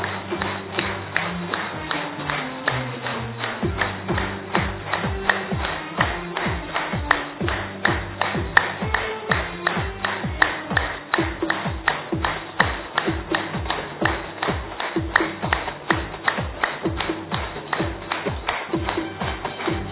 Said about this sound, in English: Congratulations for clapping yourself.